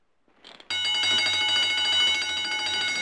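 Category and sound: signal or alarm, burglar alarm bell ringing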